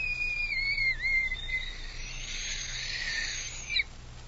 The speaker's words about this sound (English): As if to mock me, I absentmindedly picked up the little tin whistle which was in the box of old things. It was now battered and musty. Almost involuntarily, I put it to my lips and blew.